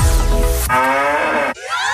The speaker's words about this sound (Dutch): Al 1 van de 4 Müllermilkflesjes met het moe-geluid is gevonden. Dus hou je oren goed open.